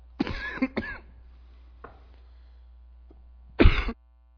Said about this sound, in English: Excuse me. That's the problem. I'm still healthy, but this cough, if I get going too quickly, you get that tickle.